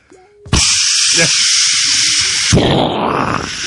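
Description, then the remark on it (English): A sudden loud, steady hiss of water spraying forcefully from a burst hose at a toilet in a bathroom at night, just after flushing, starting abruptly and continuing for a few seconds before shifting to a rougher, splashing rush. “That sounds like a lot of water.”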